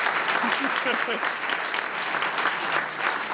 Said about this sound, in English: She deserves a little applause. She's put up with us.